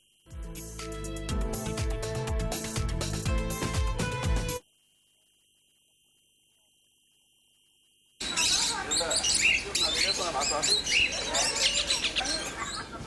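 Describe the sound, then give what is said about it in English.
A dense, loud chorus of parakeets and lovebirds squawking and chattering nonstop in a bird sanctuary sheltering over 100 birds of 13 species, resuming after a few seconds of silence that follow an earlier stretch of busy tonal sound. “Here, visitors can feed lovebirds, parakeets, rosella birds, and many more.”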